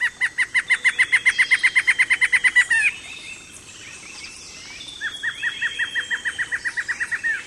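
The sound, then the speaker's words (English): Two black-hooded antshrikes call from deep in a thicket in two bouts of rapid, evenly spaced notes that speed up slightly, the first loud series lasting about three seconds, then a pause before a second, softer series answers. “Deep in a thicket, two black-hooded antshrikes call.”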